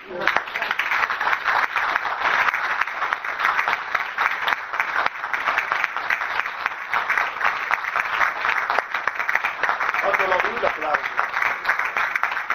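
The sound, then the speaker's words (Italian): Sustained audience applause after a Lenten talk, a dense steady wash of many hands clapping at an even loudness for the whole stretch, with no pauses and no voices rising above it. “Fatelo con gli occhi, applausi.”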